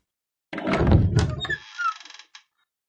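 A heavy hidden door lurches open with a deep, rumbling thud, followed by a brief scraping, mechanical slide that trails off into a short rattle before silence; it is opened by pressing a blue button on an electrical distribution panel and leads to a secret passage to a laboratory.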